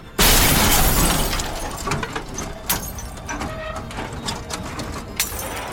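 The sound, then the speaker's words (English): A sudden loud crash as another car hits a car reversing away from it, crunching metal and shattering glass as the car flips, then a long clatter of scraping debris and sharp intermittent cracks. “I shift the gear into reverse, but they hit me just the same.”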